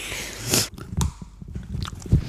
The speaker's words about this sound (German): Warte mal, ich kann noch ein paar Erdnussgeräusche. Ja? Mal, warte. Auch mit offenem Mund. Voll lecker.